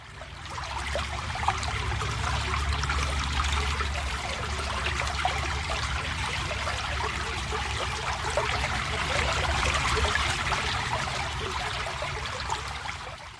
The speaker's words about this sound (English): The first sound is the sound of a country brook.